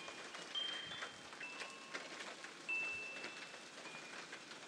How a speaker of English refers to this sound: That rain is hitting my cover of my garden seat. That's why it sounds loud.